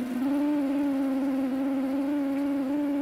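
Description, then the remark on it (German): A steady, loud buzzing drone of a honeybee colony swarming in early summer, a dense cloud of bees rising over a garden as up to 1000 bees a minute pour from the hive's entrance slit, holding one low hum without pause, with no voices. “Wenn im Frühsommer ein Bienenvolk schwärmt, ist das nicht nur ein eindrückliches Geräusch, sondern auch ein gewaltiger Anblick.”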